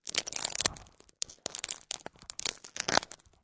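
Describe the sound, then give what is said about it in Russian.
Plastic being crinkled and crushed in the hands, a dense run of sharp crackles and crunches with irregular bursts, bright and hissy, filling about three seconds with no talking. “А это я тебе показываю пластик. Вот у меня пластик в руках.”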